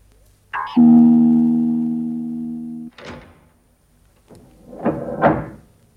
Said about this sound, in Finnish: Ovi. Ne lukitsivat oven.